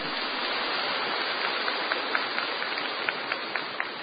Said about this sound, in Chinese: 鼓掌。